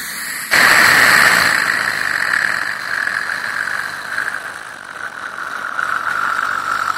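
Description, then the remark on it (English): A dental suction straw, used to wash out the mouth after gritty toothpaste, switches on abruptly and runs steadily, a loud, continuous airy hiss with a high whining tone that wavers slightly in strength. No one speaks. “you put that straw in, and it's that suction thing”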